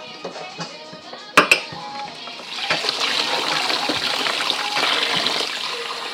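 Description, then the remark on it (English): Water sloshes and trickles steadily in a running dishwasher, a broad hissing wash that swells after a couple of sharp clinks near the start, with faint rattling throughout. “Is that finished? What? Dishwasher.”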